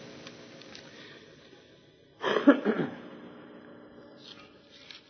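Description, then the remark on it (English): A single harsh burst of coughing and throat clearing from a person who has picked up an illness, lasting under a second, breaks an otherwise quiet stretch with faint room noise. “You may have to hit the cough and sneeze button here with me today because this week I picked up something or other, and hopefully I'll be over it by feast time.”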